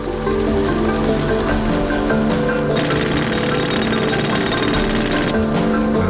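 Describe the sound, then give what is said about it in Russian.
Heavy drilling machines run loudly and steadily, a dense mechanical roar with a deep droning hum, and a harsher, hissing grind rises for a few seconds in the middle before easing back. “Либерман, глава управляющей компании, привез буровые машины.”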